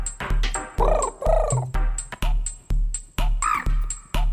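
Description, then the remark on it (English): A person squawks and warbles in a bird-like imitation recorded into a song, a few rising-and-falling calls layered over a steady, loud thumping beat that pulses about twice a second. “I'm a bird in the song now.”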